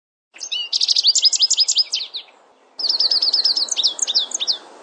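Rapid series of high, bouncy chirps from a goldfinch flying over, two bursts of quick repeated notes separated by a brief pause, clear over faint background hiss.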